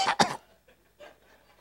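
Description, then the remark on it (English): Two quick, harsh coughs in rapid succession, loud, followed by faint, indistinct noise. “Hey, coughing.”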